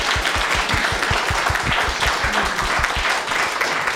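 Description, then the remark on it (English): An audience at a brown bag talk applauds the speaker steadily for the full four seconds, a dense wash of many hands clapping with some louder, rhythmic individual claps standing out, and no one speaking. “Let us please give Philip Ritterman another round of applause.”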